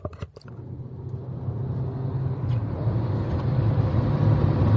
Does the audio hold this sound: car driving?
yes